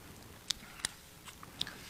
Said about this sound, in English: Let me get a sip here. I got a tickle in my throat.